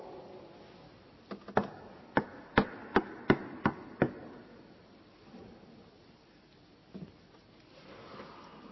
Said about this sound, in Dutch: Zullen we het doen? Zal ik voor u kloppen? En voor jou?